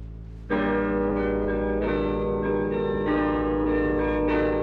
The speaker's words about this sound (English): That's the identification of Radio Netherlands, comparable to our familiar trademark, the NBC Chimes.